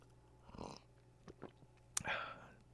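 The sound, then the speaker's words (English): Quiet slurping sips of hot coffee, a few short wet draws spread over a couple of seconds with a small click near the end, no talking. “Just sipping on some coffee.”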